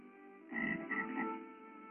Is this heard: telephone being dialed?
no